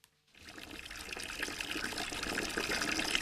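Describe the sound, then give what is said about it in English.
Water pours steadily into a big old bucket once used for making cider, after a brief silence, a continuous splashing rush that grows slightly fuller and louder as it fills, with no talking; drinking water for calves on a micro dairy farm in County Mayo. “So I'm old school, filling a big old bucket that we used to make cider in.”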